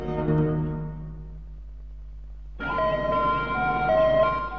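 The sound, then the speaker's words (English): Sirens of two police cars and an ambulance heading down a drive towards a house wail steadily, starting softer and then swelling abruptly louder as more sirens join in partway through, sounding like they're approaching. No one speaks. “Two cop cars and an ambulance head down the drive towards the main house.”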